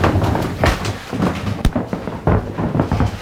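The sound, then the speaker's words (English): Footsteps across creaky wooden floorboards in a Tudor room of the Archbishop's private lodgings, an uneven series of dull knocks and thumps with one sharper crack, over a constant rustling background and no voices. “Into a really fantastic, creaky floorboards.”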